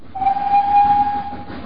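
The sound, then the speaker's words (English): A train into Kilchester rumbles along the tracks while a single long, steady whistle sounds over the noise for about a second before fading back into the rolling clatter. “And so I caught the train into Kilchester”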